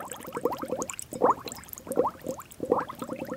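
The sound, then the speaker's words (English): Eggs boiling in a pot on the stove, cooked as food for Chinese New Year, with steady bubbling and gurgling that swells in rhythmic bursts about once a second, with no voices. “We prepare the yummy food and start by boiling the eggs.”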